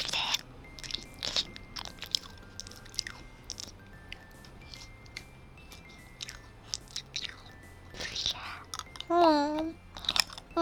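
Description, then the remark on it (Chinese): Crisp crunching bites into a candied hawthorn skewer (bing tang hulu) with a hard sugar coating, followed by irregular chewing crackles, with a brief hummed or murmured voice near the end. “老板，你这冰糖葫芦怎么卖的？来一个。”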